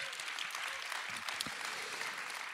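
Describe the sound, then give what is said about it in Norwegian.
A small crowd at Elvespeilet in Porsgrunn claps steadily, a dense patter of many hands at moderate loudness, with a few faint voices mixed in beneath the applause. “Liten applaus, please.”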